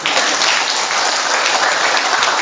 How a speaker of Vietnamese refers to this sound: Mấy ông cho chàng pháo tay đi.